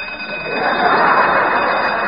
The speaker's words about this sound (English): Turn off that alarm clock!